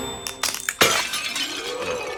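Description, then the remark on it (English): A dropped vase hits the floor and shatters with a sharp crash, followed by a bright, ringing scatter of glassy shards tinkling and settling for over a second. “Yeah, so he drops it again, and then he goes, "Aah!”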